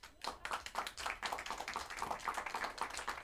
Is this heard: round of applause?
yes